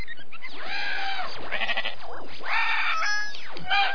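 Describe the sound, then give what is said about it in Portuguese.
A voice imitates a cow with a few drawn-out, wavering moo-like calls that rise and fall in pitch, fairly loud, with no other talking. “Agora o … fala com vacas.”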